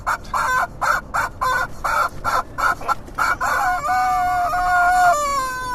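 A chicken clucks in a quick, steady run of short bursts, then a rooster lets out a long, drawn-out crow at the end, both loud with no voices.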